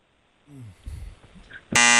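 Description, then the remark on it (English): After a second or so of faint murmuring and soft bumps, a game show buzzer blares abruptly during a speed round: one loud, harsh, steady electronic tone rich in overtones that holds to the end. “I'm getting buzzed.”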